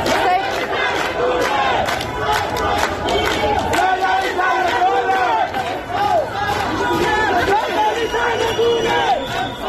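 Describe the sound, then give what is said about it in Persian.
A large crowd of protesters chants and shouts together in loud, overlapping voices, with rising cries and steady crowd noise filling the whole stretch without pause, at a Tuesday-night protest rally in Iran, from videos shared on social media. “بر اساس فیلم های منتشر شده در شبکه های اجتماعی، تجمع ها در قزوین، ابهر، مشهد، تهران، بوکان، ایزه، کرمانشاه، ارومیه، روانسر، رشت، لاهیجان، بابل و همدان برگزار شد.”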